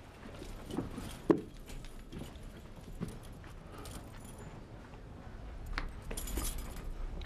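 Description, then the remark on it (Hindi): A bunch of keys to the premises jangle and clink a few times in short metallic bursts, with one sharper clack, over a quiet background with faint rustling. “ये यहाँ की चाबियां हैं”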